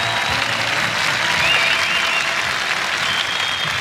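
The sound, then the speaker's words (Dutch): Sustained applause from a crowd on a live recording, a dense steady wash of clapping at an even loudness for the whole stretch, with no voices standing out above it. “En nog applaus ook nog.”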